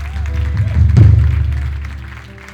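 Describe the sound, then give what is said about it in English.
A church audience erupts in clapping after people raise their hands to get right with God, a dense, steady wash of applause that swells to a peak around the middle and then slowly fades, with a low rumble underneath. “If you're wondering why the church just erupted in clapping, it's because that's our Super Bowl.”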